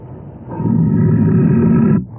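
A deep, rumbling tiger roar swells up and holds for about a second and a half before cutting off, loud, with a low growl lingering beneath it.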